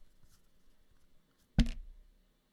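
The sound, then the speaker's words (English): A single four-sided die (d4), rolled into the microphone, hits a hard surface with a loud, sharp clack and then rattles briefly before settling, preceded by faint soft scuffing and shaking. No one speaks. “There will be some audio spikes as I roll dice into the mic.”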